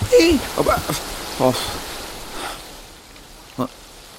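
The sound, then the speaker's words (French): Lake water laps softly under a wooden jetty: a steady watery wash broken by a few irregular slaps and splashes, busier at first, then calmer, with one last sharp slap near the end. “Il regarde le lac tranquille, écoute le clapotis de l'eau sous le ponton.”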